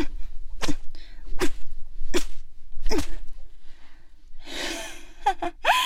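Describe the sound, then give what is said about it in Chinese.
Four sharp whip lashes crack in a steady rhythm, loud, as a man accused of spying is whipped during interrogation, followed by a harsh gasp and short pained vocal cries from the man being struck. “哼，看来我刚才那一鞭子还没有叫你知道我的厉害。”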